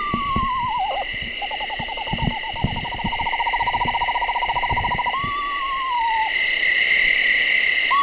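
A recorded screech owl call broadcast from an iPod: a quavering descending whinny, then a long, steady monotone trill and another falling whinny, clear over a constant high night-insect or frog chorus.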